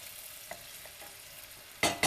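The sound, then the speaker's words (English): A steady, quiet sizzle of onions frying in oil in a pan, a soft crackling hiss throughout, broken near the end by a loud burst of scraping as the pan is stirred. “I don't know about you guys, but I've always loved the smell of frying onions.”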